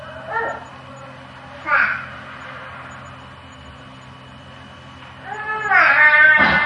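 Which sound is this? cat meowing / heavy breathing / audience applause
cat meowing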